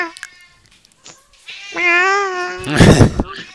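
A single drawn-out, nasal meow rises close and loud after a couple of faint clicks, then breaks into a harsh, raspy burst before fading out.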